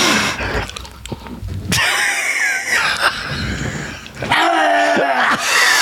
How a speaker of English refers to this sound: And I want you to do if you don't do a big sniff, then it was pointless.